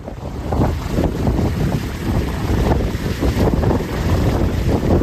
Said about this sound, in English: That's the sound of winds of more than 230 kilometres per hour.